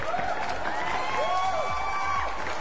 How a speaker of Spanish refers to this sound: Unos aplausos para usted.